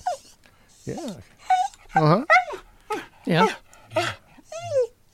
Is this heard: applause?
no